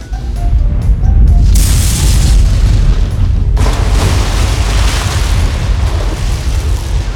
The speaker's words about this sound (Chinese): 整栋楼摇摇欲坠，一晃眼，只听轰隆一声，高楼倒下，溅起大片水花。